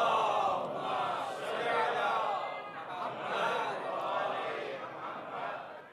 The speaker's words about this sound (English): I like the echo in this banquet hall. So can you please give me a nice loud salawat ala Muhammad wa ala Muhammad, please?